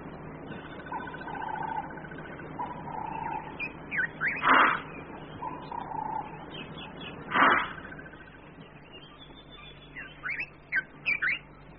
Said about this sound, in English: The herd animals, like the gnus or blue wildebeest, snort to warn each other when one of them spots a predator or catches his scent.